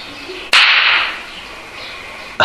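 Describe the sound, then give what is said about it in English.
Two loud, sharp whip cracks about two seconds apart, each a sudden snap. The first trails off into a bright hiss that fades slowly. No one speaks. “You're going to get some good cracks and good slaps.”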